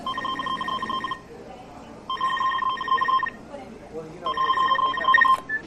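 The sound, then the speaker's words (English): A telephone rings in three steady, trilling bursts separated by short pauses, fairly loud, with a faint murmur of background noise underneath. “Oh, okay, I'll phone her.”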